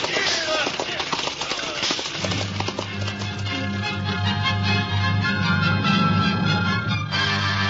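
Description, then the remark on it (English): Horses' hooves clip-clop steadily along the London road in a quick, rhythmic patter, soon joined by swelling orchestral music beneath the continuing hoofbeats, in an NBC Theater radio version of Great Expectations by Charles Dickens. “The London road stretched out under the horses' feet.”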